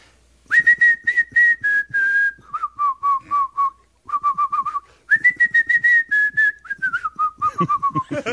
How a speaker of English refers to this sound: I like you're whistling a rap part.